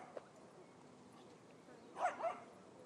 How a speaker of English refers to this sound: The dog is in the direction that we're going in.